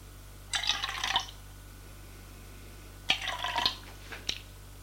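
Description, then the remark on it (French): Wine is poured from a bottle into glasses in two short, gurgling pours, each under a second, separated by a pause. A light clink follows, over a quiet low hum. “Elle ouvre la bouteille et serre.”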